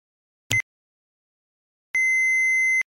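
A short click with a brief chirp, then after a pause a single steady electronic beep lasting almost a second, an answering machine tone as its messages are played back. Clear, no talking.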